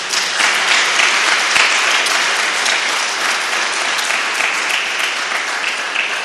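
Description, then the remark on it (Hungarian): Sustained audience applause welcoming a performer fills the whole stretch, a dense, steady crackle of many hands clapping at an even loudness with no voices audible. “Őt is szert tapsol is köszöntsük.”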